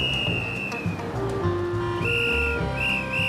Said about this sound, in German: Seine gelbe Weste ist recht gut zu sehen und seine Trillerpfeife ist weit zu hören.